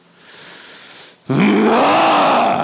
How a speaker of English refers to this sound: The monster roars.